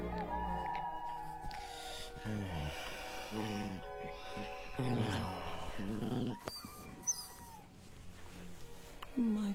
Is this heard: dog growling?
yes